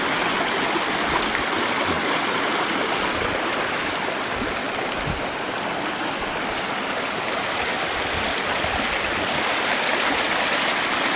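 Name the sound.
creek water flowing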